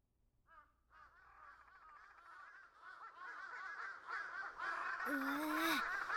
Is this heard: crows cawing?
yes